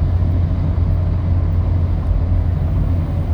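A steady, low rumbling drone of a car on the move, heard from inside the cabin while being driven about 10 minutes to a Subway restaurant to get food, with constant road and engine noise and no voices.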